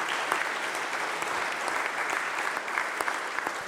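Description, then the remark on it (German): Sustained applause from a conference audience, a dense wash of many hands clapping steadily at moderate volume for several seconds, with no voices standing out. “Ich würde sagen, das ist einen Applaus wert.”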